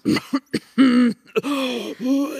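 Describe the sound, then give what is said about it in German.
A voice mimics throat clearing: a few short gruff grunts, then longer rasping, voiced ahems that build in strength like the start of a cough, with no words spoken. “Dann steigert sich das so langsam. Bis zu schlimmen Hustenreizen.”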